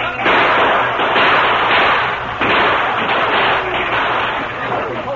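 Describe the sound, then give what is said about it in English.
Dense, continuous gunfire crackles without pause as Apaches attack a stockade and a wagon is pushed inside: a loud barrage of overlapping shots and thuds filling the scene for several seconds, with a steady rumble underneath. “Covered of constant gunfire, the wagon was hurriedly pushed into the stockade, and the gates were closed.”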